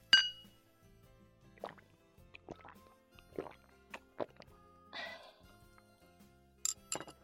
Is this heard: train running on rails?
no